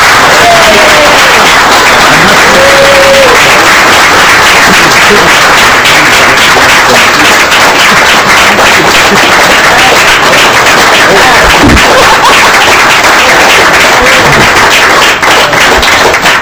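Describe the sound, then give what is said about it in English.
A crowd breaks into sustained, loud applause, a dense wash of many hands clapping steadily for the whole stretch, with a few faint voices and whoops rising briefly through it. “Let's give all of these people, everyone who has something to do with it.”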